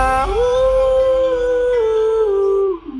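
A dog lets out a single long, loud howl, rising at the start, holding a steady wavering pitch for a couple of seconds, then dropping away at the end.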